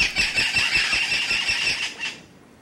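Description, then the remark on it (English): Loud, harsh squawks of 11-inch, 10-ounce parrots with powdery blue flight feathers overlap in a dense, continuous, intense chorus of shrill calls as the birds fly into the rainforest canopy in the early morning, then fade out near the end with no voices present. “And their loud squawks make them seem larger than their 11-inch, 10-ounce frames.”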